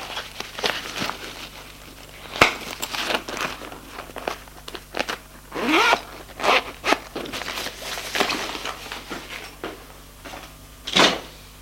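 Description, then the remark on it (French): A suitcase is unzipped in a series of quick, scratchy zipper pulls, followed by rustling, soft knocks and shuffling as it is opened and a bathrobe and toiletry kit are taken out. No one speaks. “Elle commence à ranger ses affaires, ouvre sa valise, prend un peignoir, et nécessaire de toilette.”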